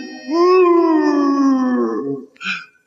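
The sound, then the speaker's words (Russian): A single long, dog-like howl rises and slowly sinks over about two seconds, likely a human voice imitating it, followed by a brief breathy sound. Loud, with no talking. “Потому-то я так мало лаю и все больше вою на луну.”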